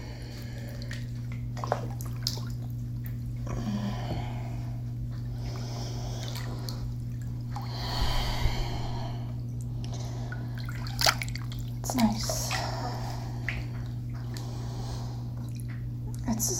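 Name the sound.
water moving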